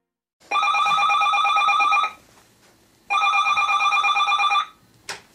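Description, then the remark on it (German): A telephone rings twice, each long electronic trill lasting over a second with a pause between, followed by a brief click as the receiver is picked up; the call comes right on time for a booked appointment. “Das Telefon klingelt pünktlich zum gebuchten Termin.”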